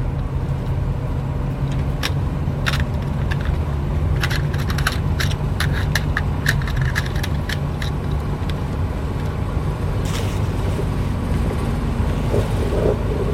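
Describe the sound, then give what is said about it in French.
Crinkling plastic and sharp little clicks and snaps as a small gift package holding a minidisc is unwrapped and opened, over a steady low engine rumble inside a car. No one speaks. “Donc on va l'ouvrir maintenant.”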